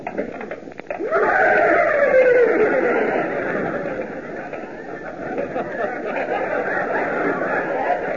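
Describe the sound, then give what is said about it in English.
Several men loudly imitate horses, voicing a long descending whinny followed by a steady, overlapping jumble of neighing and snorting noises that continues throughout. “You look almost like horses, boys.”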